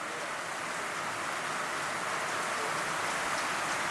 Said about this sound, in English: It's really raining, isn't it? We need to pray that we get a building so we don't get rained on when we meet together, don't we?